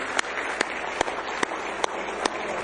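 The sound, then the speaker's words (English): An audience at a church service claps hands in praise of the Lord, a dense wash of applause with sharper unison claps punching through at a steady beat, about seven across a few seconds. No one speaks. “Let's give him a good hand clap of praise tonight.”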